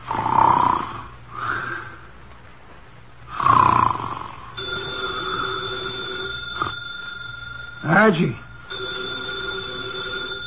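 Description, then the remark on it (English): A 300-pound man sitting in a chair in an office, eyes closed, snores loudly through his nose in a few slow, heavy breaths, then a telephone on his desk starts ringing steadily while one more snore cuts through the ringing. “His eyes are closed, and he's making sounds through his nose.”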